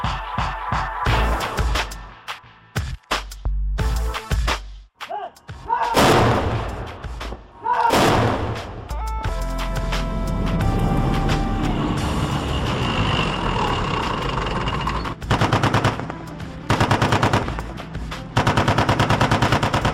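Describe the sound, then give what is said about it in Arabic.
Bursts of rapid gunfire crackle in uneven volleys during the joint military exercise Neptune Thunder, punctuated by heavier booming blasts, over a steady engine rumble that continues through the second half. “إن التدريبات العسكرية المشتركة كهذه التي تسمى نبتون ثاندر أو رعد نبتون هي مثل واضح على التعاون القائم بين القوتين.”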